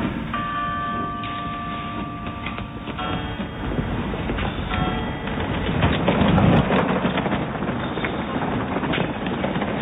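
Mounted police horse hooves clip-clop on pavement amid busy outdoor street noise, with a steady wash of background sound and a few brief tonal chirps early on.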